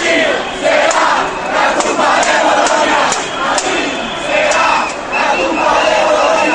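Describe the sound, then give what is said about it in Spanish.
A large crowd of student protesters from Madrid's Complutense, Autónoma and Carlos III universities shouts and chants slogans inside Atocha train station in Madrid, a dense, loud roar of voices rising and falling in waves, with a few sharp bangs or claps cutting through. “Los estudiantes de las tres principales universidades madrileñas, la Complutense, la Autónoma y la Carlos III, se han desplazado alrededor de mediodía a la estación de Atocha, ya dentro de la estación han empezado los gritos y las consignas.”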